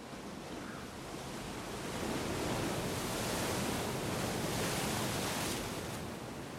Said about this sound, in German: Tosende Brandung, Nebelschwaden und Klippen, die 200 Meter hoch aus dem Meer ragen. Das ist das Kap der guten Hoffnung.